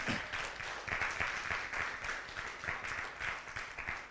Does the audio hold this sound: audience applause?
yes